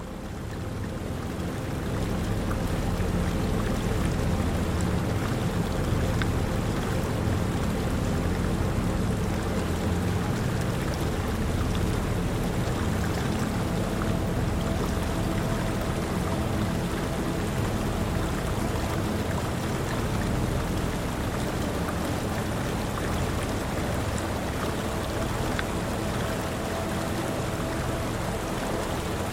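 gentle lapping of water

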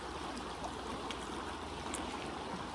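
river stream flowing

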